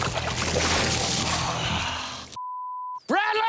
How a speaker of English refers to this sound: Man, water coming through this like nothing.